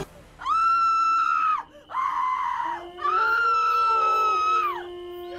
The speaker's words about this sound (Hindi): रनिया की चीख से सारा जंगल हिल गया था।